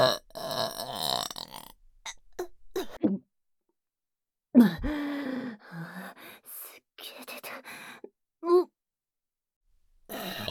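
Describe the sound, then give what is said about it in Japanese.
A series of loud burps in irregular bursts, some drawn out and gurgling, separated by short silent pauses, with one brief final burp near the end. “ゲップ出ちゃってる。”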